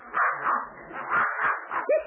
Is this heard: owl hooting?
no